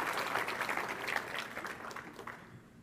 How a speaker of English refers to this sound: They're not quite here yet. You should continue applauding until they get up on the stage. It's just too fast.